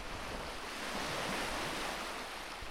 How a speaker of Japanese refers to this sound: はい、目の前に、小さな波がこちらに押し寄せては、引いているのがここでよく見えます。